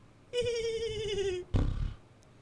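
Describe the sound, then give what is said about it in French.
A small, thin voice imitates a horse's whinny: one steady, nasal cry lasting about a second, followed by a short breathy snort-like burst. It is alone, with no talk. “Tous ces beaux discours pour seulement une si petite voix ? Allez, au revoir, cheval.”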